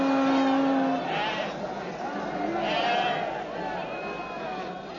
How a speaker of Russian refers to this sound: Вот овца неплеменная, незапятнанная.